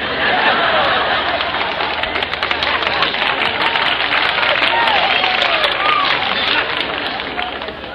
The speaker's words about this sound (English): That applause is just like making love to an old maid. You just can't overdo it.